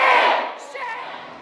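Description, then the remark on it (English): Protesters in a gallery scream "shame" as they are told to leave, in a loud, overlapping burst of raised voices that starts at full strength and gradually tapers off over about a second and a half. “Now, protesters can be heard screaming shame as they're told to leave the gallery”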